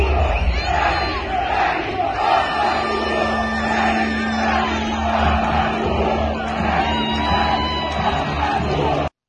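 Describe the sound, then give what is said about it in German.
A huge protest demonstration crowd in Rome, reportedly about 250,000 people, roars and shouts continuously, a dense wall of overlapping voices with yells and whoops rising out of it, plus a steady low tone running beneath the noise. “Man sagt, 250.000 Menschen seien da gewesen.”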